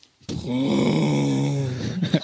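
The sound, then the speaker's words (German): A voice hums a low, steady droning growl for about two seconds, mimicking a tractor engine, then trails off into a few sputtering breaths. “Oh, der hat aber keinen Sprit mehr, der Traktor.”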